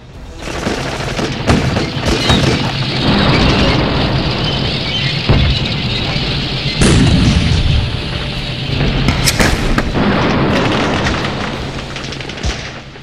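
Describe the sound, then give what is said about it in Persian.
Continuous battle din of explosions and artillery fire from a tank battle at Shalamcheh, 40 days before the end of the war, with repeated loud booms and bursts of gunfire layered over a dense, rumbling roar that persists throughout without pause. “40 روز مونده به پایان جنگ و ماجرای جام زهر، شلمچه یک پارچه آتش شد. نبرد تانک در مقابل تن.”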